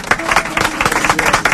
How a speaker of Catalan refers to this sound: Un aplaudiment.